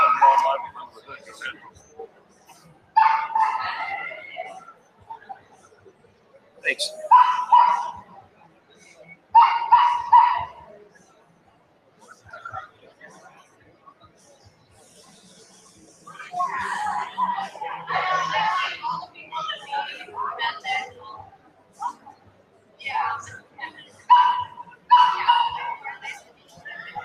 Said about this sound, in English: … talking about the barking dogs in the background